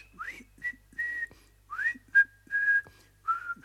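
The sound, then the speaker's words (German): A person whistles a short tune of clear, sliding notes in several bursts, some rising into sustained tones, with faint low background hum and no talking. “Soll ich mal pfeifen?”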